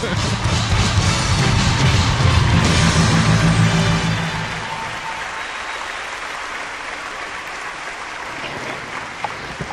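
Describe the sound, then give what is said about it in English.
A burst of dense, crackling applause, loudest for the first four seconds, then easing into a softer, steady patter of clapping and crowd noise that carries on to the end. “I want some, like, applause, you know, women orgasming noises here.”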